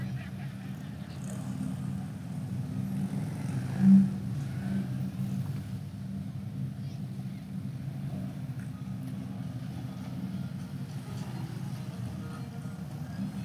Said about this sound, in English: If you remember, was it last year, a couple of years ago, we had like 200 Harleys come in for a Harley rally. And I think I said then, and it's true today, if I was driving one of these motorcycles, I'd be revving it right now.